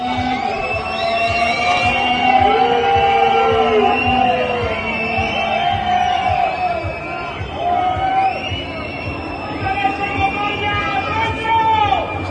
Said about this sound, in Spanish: Fíjate que la gente está enfadando mucho, que cuando ven volver el coche de McLaren a boxes, abucheos a McLaren.